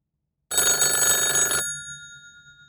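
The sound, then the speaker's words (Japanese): An old-fashioned telephone bell rings in one continuous rapid metallic trill for about a second, then stops abruptly, leaving its bright tones to shimmer and fade. No voices are heard. “いえいえ、先生。どうぞ、電話です。”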